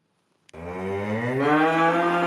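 A cow gives one long, loud moo that starts abruptly after a brief click and stays steady, its pitch rising slightly as it drags on. No one talks.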